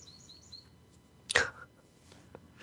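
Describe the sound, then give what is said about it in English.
Faint, high-pitched bird chirps repeat quickly at the start, then a single louder, sharper burst cuts in before things fall quiet again with soft background noise. “See, the birds agree.”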